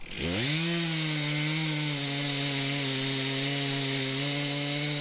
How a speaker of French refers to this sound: Ok, bon, bah, je vous laisse reprendre la tronçonneuse.